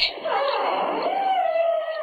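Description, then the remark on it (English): A whale call: one continuous, squeaky tonal cry that bends downward, then rises and holds, steady and fairly loud for about two seconds with no talking. “Here is your second whale sound.”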